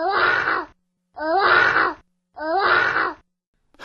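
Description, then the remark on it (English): A person imitates a lion's roar three times: loud, rough, drawn-out vocal growls of under a second each, separated by short, evenly spaced pauses, with no other talking. “What about the lion? Is that worth hearing?”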